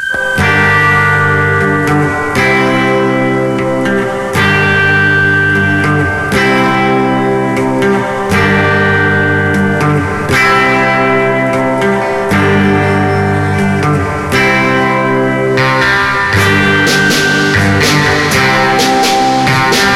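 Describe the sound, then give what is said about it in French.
Moody, reverb-drenched garage surf rock from a Saint Petersburg band, mixing gothic music and Californian surf, with twangy, effect-laden electric guitar over a steady band groove, playing loud and continuous with no voices. “Un petit peu de réverb d'un côté, un petit peu de gothique de l'autre.”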